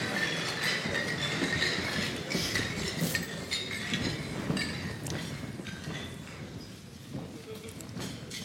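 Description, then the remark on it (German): Glasses clink together in a toast to faith, several bright taps scattered over a steady murmur of voices and background noise. “Prost auf den Glauben. Trink mal was.”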